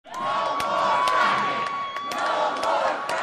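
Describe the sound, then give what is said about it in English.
A protest crowd in Sacramento, California, calling for a moratorium on fracking, chants and shouts together in a dense, steady roar of many voices, with a sustained high tone running through it and sharp clicks and whoops breaking out. “A few weeks ago, protesters in Sacramento called for a moratorium.”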